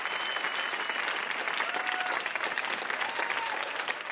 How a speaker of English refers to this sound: One more round of applause our VIP, Jed Abumrad.